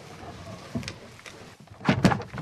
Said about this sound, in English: Biologists lift the crate and open its doors.